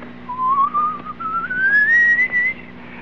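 A person whistles a slow, wavering line that climbs steadily in pitch for about two seconds, clear, over a faint low hum with no talking.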